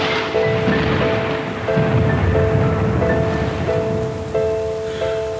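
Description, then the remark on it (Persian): Steady rain hisses throughout while low thunder rumbles underneath, with soft sustained tones drifting in the background; no one speaks. “باران می آید و ما تا فرصت سلامی دیگر خانه نشین می شود.”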